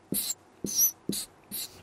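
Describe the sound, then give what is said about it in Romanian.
A pen scratches across paper in four quick strokes as a house is drawn, each a short hiss with a soft tap at the start, separated by brief pauses. No one speaks. “Ca să înțelegeți mai bine, eu desenez o casă așa.”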